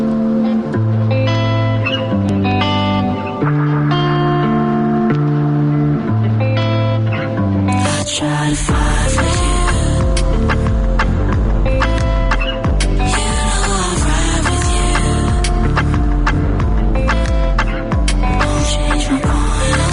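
An instrumental song intro opens with soft, sustained chord tones, then a full band with steady drums comes in loudly around the halfway point. No singing or talking.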